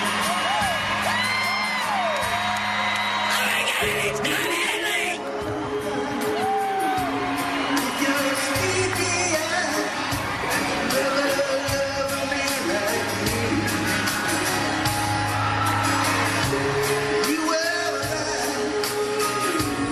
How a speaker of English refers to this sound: Oh, this is on somebody's phone, I guess, so unfortunately. That must have been when he walked out on stage because the crowd was making all the noise.